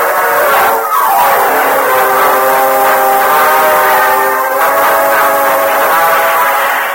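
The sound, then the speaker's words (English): A speeding train roars past a short distance from Modoc City, its steady rumble filling the scene while a long, sustained whistle blares over it with no voices. “Meanwhile, a short distance from Modoc City, Cliff Gullison hurried through the empty passenger car and joined Gopher in the engine cab of a speeding train.”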